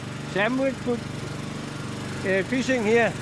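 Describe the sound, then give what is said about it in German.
A small boat engine is restarted while a longline is being wound into a winch aboard a fishing boat. It drones steadily, a low buzzing hum that runs the whole time, while people talk over it in short bursts. “… schmeißt den Motor wieder an.”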